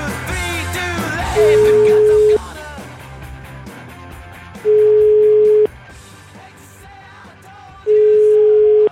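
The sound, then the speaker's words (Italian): A telephone ringback tone sounds three times, each a loud, steady one-second beep spaced a few seconds apart, playing over a busy background of music. “Telefonate che arrivano cattive.”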